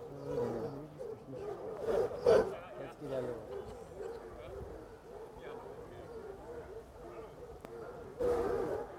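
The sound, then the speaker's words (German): A pack of hunting hounds barks and bays in an overlapping, restless chorus, with louder bursts of yelping early on and again near the end, as the hounds are held back by the hunt staff while the master moves away from them. “Also der Master entfernt sich jetzt von seinen Hunden, die von der Equipage zurückgehalten werden.”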